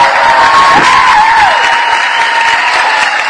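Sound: applause and cheering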